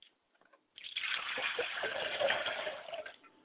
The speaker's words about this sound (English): I pour libations for my father's spirit, and I say, Ashe.